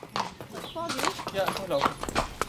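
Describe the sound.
Horse hooves clip-clop in a steady, uneven rhythm of sharp knocks, moderately loud, heard beneath a person talking.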